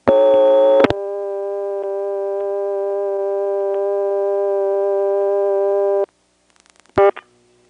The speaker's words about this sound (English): So this is not just a long phone line. It's a long phone line with something on it to make it louder. Now here again is that classic busy signal of a Stromberg XY on this phone line.